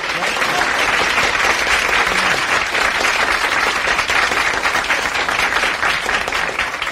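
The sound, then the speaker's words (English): Sustained audience applause fills the whole stretch, a dense, steady wash of many hands clapping with no gaps, loud and even throughout. “Hold your applause, kids, hold your applause.”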